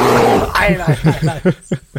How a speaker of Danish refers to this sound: Men så sker der noget. Hvad er det for noget? Det er en bjørn. Åh, Gud.